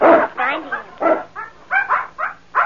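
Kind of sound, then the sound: animal, puppy barking and whimpering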